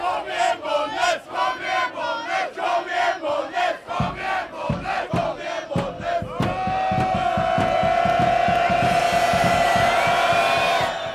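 A large bandy crowd of a couple thousand people filling the stands at Sävståsen, Bollnäs GIF's home ground, shortly before face-off, chants in loud, rhythmic bursts, then swells into a sustained roar of cheering with steady, rapid clapping or drumming underneath.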